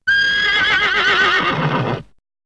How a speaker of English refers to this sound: 3. Be kind to the horse. Yes, okay.